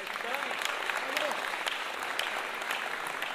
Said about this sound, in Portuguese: Agora sim, uma salva de palmas para as meninas.